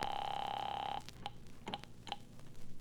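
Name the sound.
telephone call being placed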